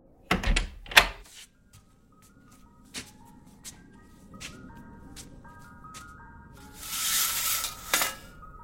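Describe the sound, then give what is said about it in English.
An ice cream truck's tinkling electronic jingle plays a simple high-pitched melody at 11:30 at night, fairly faint, after a couple of loud thumps at the start, with a brief hissing burst near the end. “Ice cream truck? It's 11:30 at night.”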